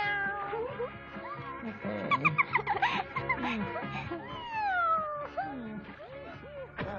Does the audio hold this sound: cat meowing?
yes